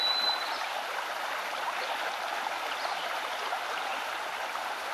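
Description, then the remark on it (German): A small, shallow brook with large stones flows steadily, a continuous soft rushing and babbling of water, with no voices and an even, unbroken texture throughout. “Wenn du magst, kannst du auch durch das Wasser des kleinen Bachs warten, in dem Wissen, dass das Wasser niemals höher als bis zu deinem Knöchel reichen wird.”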